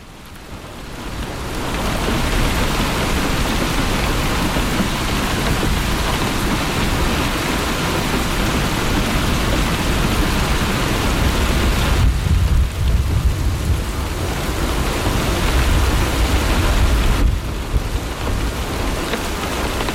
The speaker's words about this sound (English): But let's hear some more Rain, and we'll transition.